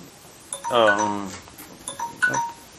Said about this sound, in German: ich dachte eigentlich, es wäre leise. Das klingt der Wecker hier.